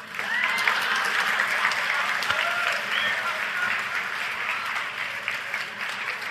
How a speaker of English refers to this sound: Give me a round of applause for saying that.